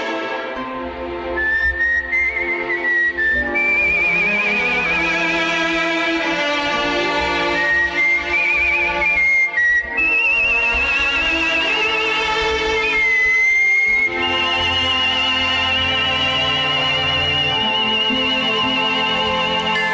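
A clear, sustained whistled melody rises and glides over a full musical accompaniment, the whistler holding long pure notes with gentle vibrato throughout.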